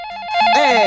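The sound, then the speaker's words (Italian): A telephone rings for an incoming call, a short burst of bright electronic warbling tones that swells louder partway through. No one speaks. “Abbiamo una telefonata perché si parla di cosplay, ovvero vestirsi da fumetti e cartoni animati.”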